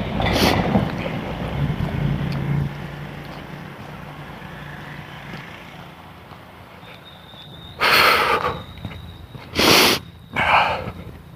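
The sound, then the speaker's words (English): Three quick, loud nasal snorts from a person with an allergy near the end, following a steady rumble of wind and boat-like background noise; no one speaks. “It's really irritating to have to do it all the time.”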